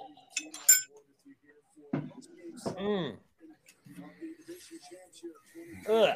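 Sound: glasses clinking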